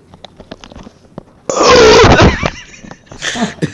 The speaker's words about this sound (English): Although that was a really good burp, so whatever.